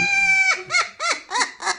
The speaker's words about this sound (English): there's a guy that walks into a barn full of goats, and when he says bah, they talk back to him.